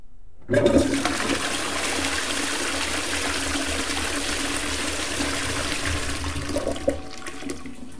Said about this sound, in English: Let's have some seconds of silence and flush this toilet because it's good for the world.